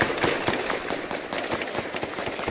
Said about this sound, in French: 2h56 sur Europe 1, nous apprenons qu'il y a des coups de feu en ce moment même à Dammartin, en Seine-et-Marne. Oui, je suis à quelques mètres de ce qui se passe et effectivement, en face de moi, on voit des coups de feu, des étincelles.